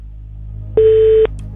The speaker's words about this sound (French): Attention, première sonnerie. C'est parti.